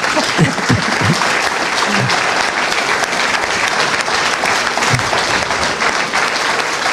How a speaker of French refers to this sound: Merci beaucoup. Et donc, on va vous applaudir, bien sûr, mais...